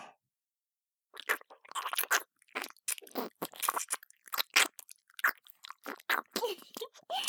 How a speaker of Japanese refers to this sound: でも右耳くちゃくちゃして攻め立てるから漏らすと怖いわね。